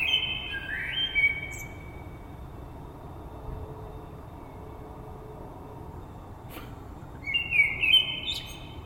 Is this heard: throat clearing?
no